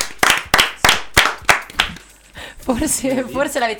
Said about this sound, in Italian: E un applauso quindi per noi